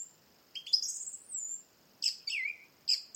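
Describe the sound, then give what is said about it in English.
A song thrush in Kerry sings in short, bright, whistled phrases separated by brief pauses, clear against a quiet background, with no one talking. “I could listen to that thrush all day.”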